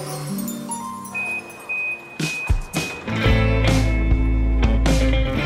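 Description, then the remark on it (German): Champagne glasses clink together a few times, mixed into a shopping centre sound composition, bright ringing tones hanging briefly in the air, while a low steady rumble and scattered clattering fill the background. “In dem Fall sind es wohl sogar Champagnergläser, die da aneinander gestoßen werden.”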